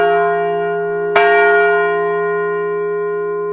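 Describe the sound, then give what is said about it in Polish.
The peace bell on Grunwald Square (Plac Grunwaldzki) is struck once, its deep resonant tone ringing out over an earlier hum that is still sounding, then slowly fading with rich, shimmering overtones. No one speaks. “To jest też pewien symbol, że uderzamy w dzwon pokoju.”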